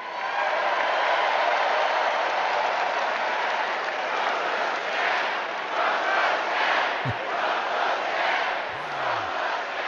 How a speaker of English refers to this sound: And the crowd repeating, Trump's a scab. With enthusiasm.